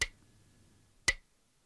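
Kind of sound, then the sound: tool, metronome ticking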